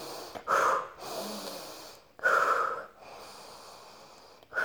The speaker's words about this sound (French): Puis tout doucement, vous mettez fin à ce temps de pratique, vous inspirez très fort, vous soufflez.